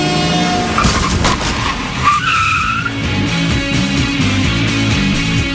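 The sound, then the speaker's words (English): Loud tire screeching from a skidding bus, a sustained high squeal rising over rumbling engine noise and lasting several seconds with no one talking. “Yeah, look out for that bus, Devin.”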